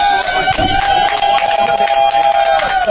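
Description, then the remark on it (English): Lukewarm crowd applause, a steady wash of scattered clapping and murmuring that never builds, with a sustained high tone ringing underneath for the whole stretch. “I'll tell you what, that was even less enthusiastic than your last applause, but I'll do it anyway.”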